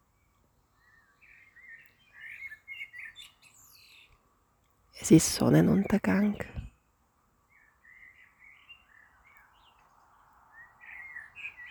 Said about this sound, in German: Die Vögelchen zwitschern rundherum.